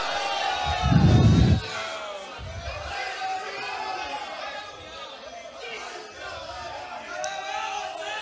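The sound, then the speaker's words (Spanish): A church audience shouts glory to God together, many raised voices overlapping in a steady, jubilant roar that carries through the whole stretch, with a heavy low thump near the start. “Pueden darle un gloria a Dios.”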